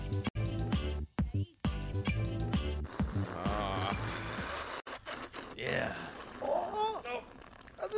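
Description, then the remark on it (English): A long, loud slurp from a mug, a drawn-out noisy rush of air and liquid lasting several seconds, following a short musical stretch, with voices chiming in over the end. “Longest slurp ever.”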